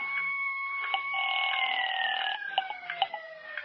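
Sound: ambulance siren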